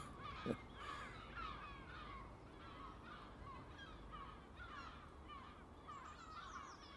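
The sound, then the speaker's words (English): A crow caws amid a chaotic chorus of 7 or 8 big seagulls squawking as they harry it in a park, the crow holding food stuffed in its beak; harsh calls overlap continuously over steady outdoor background noise, with a brief sharp thump near the start. “Whatever's going over in the park, I can see 7 or 8 big seagulls trying to harry a crow.”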